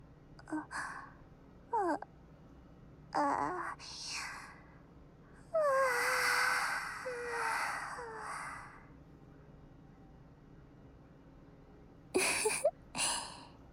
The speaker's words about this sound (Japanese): あら、わあ、大きなあくび。